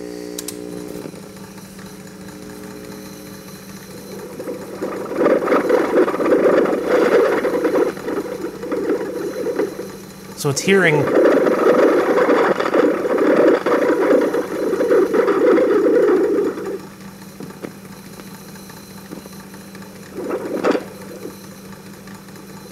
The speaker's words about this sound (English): It's actually mechanical noise. That's the sound of the stainless wire moving through the head. You can actually hear the knocking noises. It's actually listening to the pulleys.